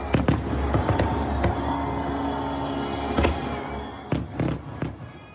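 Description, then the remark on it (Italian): Fireworks exploding over Washington in a display of 850,000 fireworks for the 250th anniversary of US independence: a rapid series of sharp booms and crackles, with a burst early on, a single loud bang near the middle and another cluster of blasts toward the end over a steady rumbling wash. “850.000 fuochi che per oltre mezz'ora illuminano la notte di Washington”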